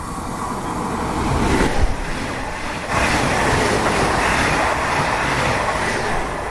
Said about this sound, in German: Jetzt kommt der Zug, man hört ihn schon.